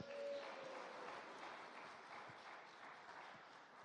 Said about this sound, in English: Round of applause.